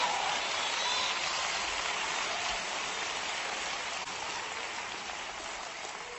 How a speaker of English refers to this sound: Clap anyhow, just give him praise.